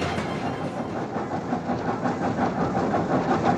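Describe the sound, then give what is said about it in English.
A train in Alaska that delivers newspapers to area residents rolls along steadily, its dense rumble and faint rhythmic clatter of wheels on track filling the space with no voices, loud throughout. “newspapers for area residents from the moving train.”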